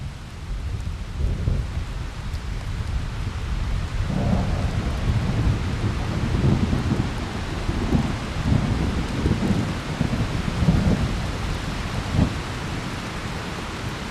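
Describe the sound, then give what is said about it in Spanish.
Steady rain hisses without a break while deep, rolling thunder rumbles swell and fade underneath it several times. No voices are heard. “El problema con esto empieza principalmente cuando vienen las lluvias.”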